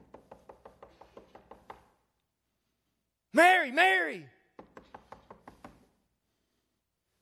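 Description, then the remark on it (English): Rapid, firm knocking on a wooden door in quick bursts, then a voice shouts out loudly twice before another flurry of knocks follows. “You think there was some fear in her heart as she heard the knock?”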